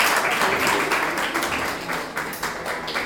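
Steady audience applause at a children's drawing contest award ceremony, a dense crackle of many hands clapping at once, fairly loud and sustained throughout with slight surges in the rhythm.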